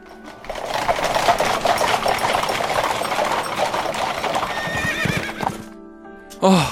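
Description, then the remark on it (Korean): A horse whinnies loudly over the steady rhythmic clatter of hooves and rolling carriage wheels as a horse-drawn carriage arrives in the kingdom of Far Far Away, the clopping continuing for several seconds before fading, then a brief sharp noise at the end. “사람들은 환호하며 마차에 탄 우리들을 반겨주었다.”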